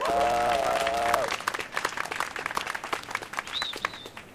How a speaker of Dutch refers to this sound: En speciaal helemaal uit Arnhem en net terug op vakantie, een hartelijk applaus voor Sarah Dobben.